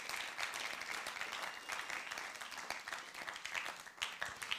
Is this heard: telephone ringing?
no